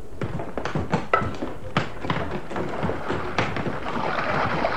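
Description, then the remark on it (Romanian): A rowboat is lowered from a sailing ship onto the water off a port: a series of wooden knocks and hollow thunks, irregularly spaced, giving way to a steady wash of water noise at the end. “Coborâți barca!”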